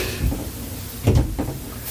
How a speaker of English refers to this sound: And for the people at home, you can tell that that door just closed.